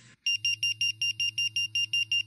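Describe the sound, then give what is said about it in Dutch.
A firefighter's pager (alarm receiver) going off as the dispatch centre calls out firefighters: a loud, rapid series of high electronic beeps in a steady, fast rhythm over a low droning tone, with no voices. “En wij noemen dat ook wel een pieper. En waar je ook bent, de buurt, jouw pieper gaat dan af.”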